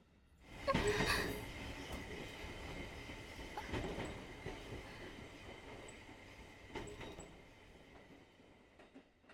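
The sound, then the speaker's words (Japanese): A train rumbles steadily along the tracks, with a loud jolt of rattling and screeching early on, then scattered clacks and metallic creaks as the carriage sways. No one speaks. “ごめんなさい、電車揺れた時乳首思いっきり引っかいちゃって。”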